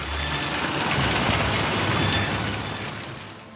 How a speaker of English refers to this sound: When a cyclone begins, after a calm, steamy heat is over, there springs up a wicked, intermittent little wind. The trees grow restless. You can almost feel their terror. Then the wind increases. The rain begins, small and hard.